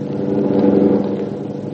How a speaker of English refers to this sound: Here comes a police car.